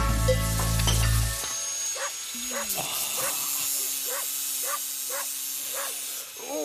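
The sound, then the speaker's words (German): A dog named Waldemar barks repeatedly in a steady rhythm, about six or seven sharp barks, over a constant hissing, sizzling background after a brief low hum at the start. “Vielleicht bellt der Waldemar auch wegen den beiden.”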